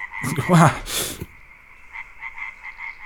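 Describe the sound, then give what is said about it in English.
A frog lets out a loud croak, followed by a quieter run of short, rhythmic croaking pulses that trail off. “Who chases someone around with a frog?”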